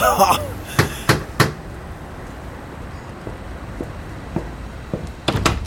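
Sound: door being opened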